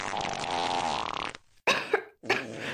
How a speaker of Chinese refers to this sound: 哎，是臭鸡蛋味儿。 姐姐抱歉了，放屁而已，不过是个正常的生理现象，对吧？